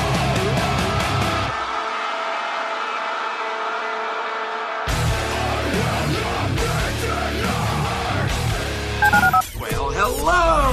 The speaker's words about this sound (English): Dial the phone.